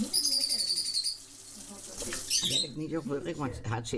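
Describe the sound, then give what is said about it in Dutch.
A pet bird named Coco chirps in quick, bright bursts of high, trilling notes near the start and again toward the end, while muffled voices murmur underneath. “Afscheid nemen van haar vogel Coco.”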